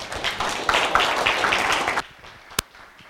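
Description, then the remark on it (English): A church audience claps together for about two seconds as a morning clap offering to Jesus, a dense, bright burst of many hands that cuts off abruptly, followed by near-quiet and one sharp tap. “Let's say we give Jesus a clap offering this morning.”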